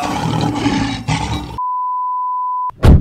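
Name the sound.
lion-like roar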